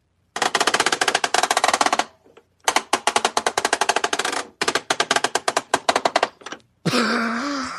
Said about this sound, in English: So I actually went to my collection and mic'd up the vintage Kenner Millennium Falcon, and I recorded what that turret sounded like as you rotate it.